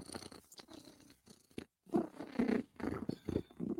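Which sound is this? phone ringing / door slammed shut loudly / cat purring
cat purring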